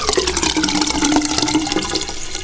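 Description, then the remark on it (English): A toilet flushing, with water rushing and gurgling steadily down the drain, loud and continuous throughout with no voices. “Water down the drain.”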